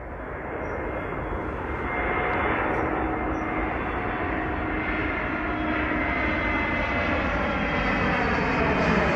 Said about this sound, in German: Eigentlich landet dieser Flieger gerade. Seinen Lärm habe ich mit dem Handy aufgenommen vor ein paar Tagen am Rande der Tappenbek. In dieser Folge soll es also um den Fluglärm in Großborstel gehen.